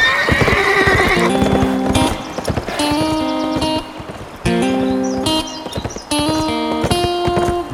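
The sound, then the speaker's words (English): A horse, pushed hard by its rider, gallops with rapid, rhythmic hoofbeats while loud, shrill neighs and whinnies repeat over the top several times, with no talking. “By pushing his horse harder than he wanted to, Smoke arrived in front of the store just before closing time at 5 o'clock.”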